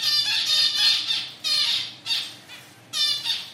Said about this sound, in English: At the university's laboratory aviary, female zebra finches provide plenty of audio examples